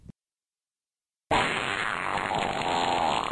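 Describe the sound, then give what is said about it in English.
A loud, drawn-out fart sound effect bursts in after a short silence and keeps sputtering and rumbling without letup until the end. Nobody speaks. “Welcome to Fart Stories.”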